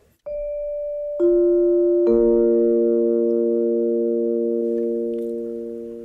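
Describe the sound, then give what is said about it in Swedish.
A Sveriges Radio P1 time signal marking 11 o'clock: three clean electronic tones enter one after another, stacking into a steady sustained chord that holds for several seconds before slowly fading, with no voices. “Än så länge är det förmiddag. Klockan slår nu 11.”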